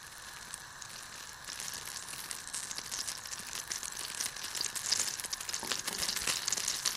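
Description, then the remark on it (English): Steady sizzling of a small knob of butter and some garlic frying in a frying pan to make garlic butter for dough balls, a dense crackling hiss that builds slightly and continues for several seconds with no voices. “Before putting the dough balls into the oven, put a small knob of butter in a frying pan, as well as some garlic.”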